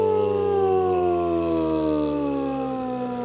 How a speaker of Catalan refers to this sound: I atenció, que sonen les sirenes.